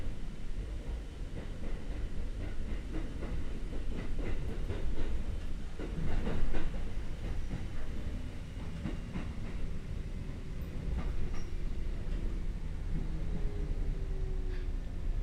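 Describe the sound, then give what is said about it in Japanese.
A train shortly before its first stop rumbles steadily while its wheels clatter over track switches, giving a burst of irregular clicks and knocks around the middle before settling back into a low, continuous roll. “ポイントを通過すると揺れますのでお気をつけください。”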